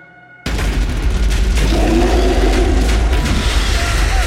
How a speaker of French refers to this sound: des cris et des coups de feu viennent des tranchées et le bataillon doit faire demi-tour à toute vitesse.